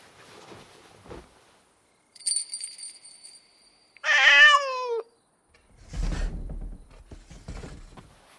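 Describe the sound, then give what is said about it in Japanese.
A single drawn-out Bengal cat meow, loud, falling in pitch. A bright chiming tone rings before it, and a rough, scuffling noise follows. “私はベンガル猫。”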